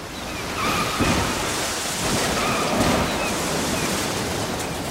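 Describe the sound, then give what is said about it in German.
Heavy storm waves surge and crash onto the deck of a container ship in the rough North Pacific on 10 January 1992, a continuous roar with thudding low impacts around the first and third seconds, wind-driven spray hissing throughout, loud. “Riesige Brecher donnern aufs Deck.”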